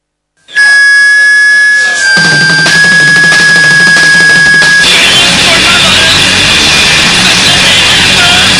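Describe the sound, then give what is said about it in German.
A loud electronic doorbell rings with bright, sustained chiming tones for a few seconds, then gives way to a dense, noisy wash of sound that continues to the end. “Moment, es klingelt an der Tür.”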